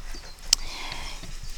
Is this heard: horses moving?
yes